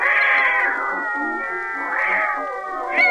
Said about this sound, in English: Why, that's Tiny, my beautiful little Maltese cat.